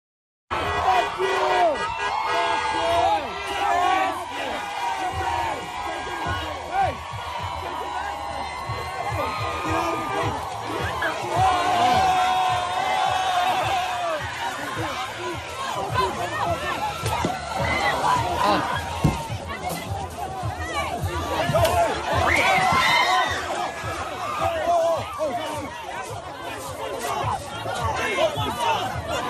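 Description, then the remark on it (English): A crowd at an off-campus rally near Tulane University in New Orleans shouts in chaos as a man tries to burn an Israeli flag and a pro-Israel student is beaten with a flagpole; many voices overlap in a loud, continuous roar of yelling and babble, with sharper cries breaking out now and then. “video out of New Orleans where an off-campus rally near Tulane University gets out of hand as a man attempts to set an Israeli flag on fire and a pro-Israel student tries to stop him, whereupon he gets beaten with a flagpole and chaos ensues.”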